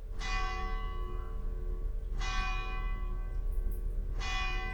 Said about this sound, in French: On sonna la cloche.